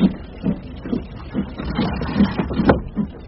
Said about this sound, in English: We've got a long journey ahead of us. I'd best put up the window, the rain's coming in.